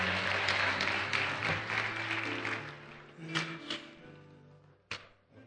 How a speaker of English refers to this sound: Let's give these young people another round of applause. They've done a wonderful job.